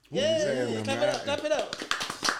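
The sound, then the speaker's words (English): After a drawn-out vocal cheer, a burst of quick, uneven hand claps breaks out for about a second as two guests are welcomed, several people clapping at once in a lively, crackling patter. “Yeah, clap it up.”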